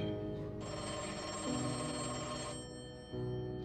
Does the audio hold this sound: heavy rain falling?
no